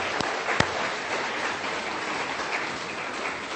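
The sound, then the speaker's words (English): Steady applause from an audience of mums and dads for boys and girls who worked hard, a dense wash of many hands clapping at an even level throughout, with a couple of sharper claps standing out near the start. “And I think the mums and dads should give you a round of applause for working so hard.”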